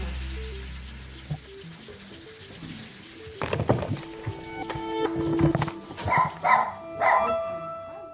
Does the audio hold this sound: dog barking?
yes